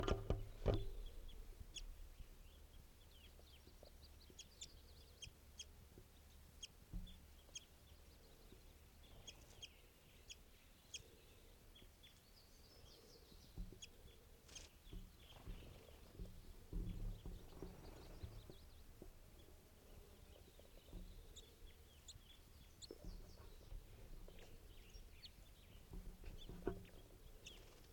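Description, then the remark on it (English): At least four wild birds, including a red male, give scattered short clucks and chirps over a steady low rumble, the calls faint and irregular, with no one speaking. “At least four birds here.”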